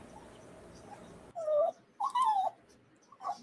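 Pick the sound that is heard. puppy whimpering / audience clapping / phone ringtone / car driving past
puppy whimpering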